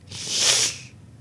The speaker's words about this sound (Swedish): Kattafan uppenbarar sig och väser till och bryter tystnaden.